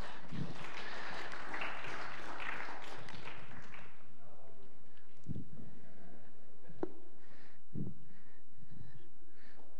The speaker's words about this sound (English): These are my volunteers. Give them a clap.